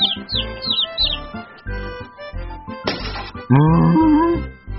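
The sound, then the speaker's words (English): A quick run of high, bright bird chirps opens over a steady, thumping low backing beat, followed by a short burst of noise and a loud, wavering animal-like call. “Not me, said the bird.”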